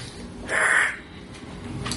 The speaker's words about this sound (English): That was like me like sniffling and yawning at the same time. Wow. Sounded like you were coughing up a hairball. I thought you were hissing.